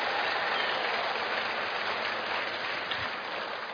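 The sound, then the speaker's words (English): Sustained applause from a crowd clapping for a married couple, a dense, steady wash of many hands clapping at an even loudness throughout, with no voices heard over it. “So, if you're a married couple, you can clap for them one more time if you want to.”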